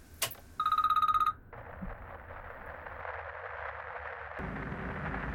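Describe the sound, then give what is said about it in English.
A single short burst of a shrill, trilling telephone ring from an incoming call, loud and rapidly pulsing, follows a brief knock and gives way to a steady hiss of static with a low rumble. “Last night, I received a call that completely threw me off my guard.”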